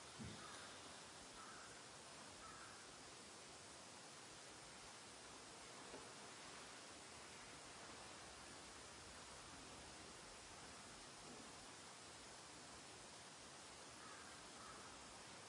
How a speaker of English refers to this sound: Crows in the distance.